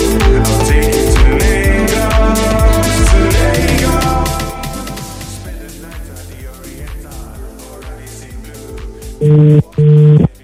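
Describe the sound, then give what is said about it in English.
A telephone ringback tone of an outgoing call sounds near the end: two loud, steady electronic pulses in quick succession, following a stretch of busy music that fades down to a quieter background. “It's ringing.”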